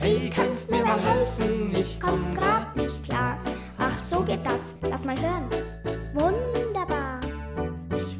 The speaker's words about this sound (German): Mein Fahrrad ist kaputt, die Klingel spielt verrückt. Sie klingelt immer nur dann, wenn kein Mensch auf sie.